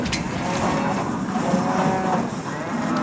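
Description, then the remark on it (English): Several cows moo and low together in long, overlapping calls, fairly loud, filling the whole moment without a break. “Try telling that to my cows.”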